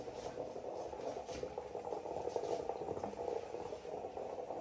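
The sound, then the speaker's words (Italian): Coffee bubbling up in a stovetop pot, a steady gurgling hiss with irregular little pops and sputters, moderately loud and continuous throughout, with no voices. “Ok, adesso siamo pronti per il caffè. Ma Sento sto confuso. che che sta uscendo. Ecco qua. Sta venendo.”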